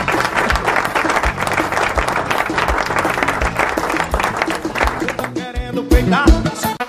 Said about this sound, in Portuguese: Aplausos, cadê os aplausos, produção, para o casal?